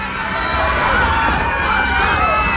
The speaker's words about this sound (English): There was uproar. It took several purple firecrackers exploding from the end of Professor Dumbledore's wand to bring silence.